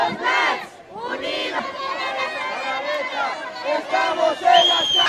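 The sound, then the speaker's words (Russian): A crowd of about 150 children and teenagers at a protest in La Paz, Bolivia, trying to occupy the square in front of the National Assembly building, shouts and chants together in a loud, dense roar of overlapping cries, with higher-pitched yells rising above the mass near the end. “Вот так выглядит детская акция протеста.”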